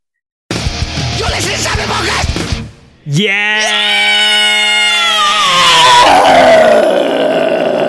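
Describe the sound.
A man imitates a heavy-metal scream: a long, loud, raspy scream starting with a gritty growl, then rising into a sustained, strained high-pitched shriek held for several seconds.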